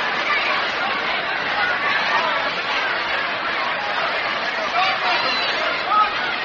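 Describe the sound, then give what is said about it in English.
A steady murmur of a baseball crowd at a National League game in Brooklyn, many indistinct voices blending into a soft, even wash of chatter with no cheers or sharp peaks, holding at a low, constant level throughout. “Crowd's sort of quiet for the moment, but they don't stay quiet at Brooklyn long.”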